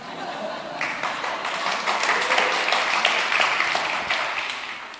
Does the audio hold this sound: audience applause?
yes